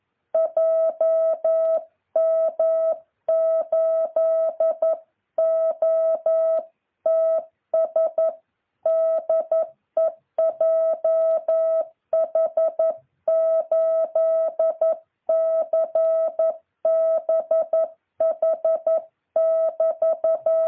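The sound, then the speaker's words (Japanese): A steady single-pitched tone keyed on and off in Morse code at a speed of about 11, short dits and longer dahs in quick, even rhythm with brief gaps between characters, fairly loud and continuous with no talking. It is a practice pattern, opening with the dah-dit-dit-dit-dah signal that marks the start of sending. “このツートトトツーっていうのは今、トトトトトツートの時にもありますように、これから打ちますよっていう符号ですから。”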